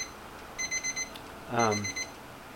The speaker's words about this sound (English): That's my weather alarm going off, so no fear.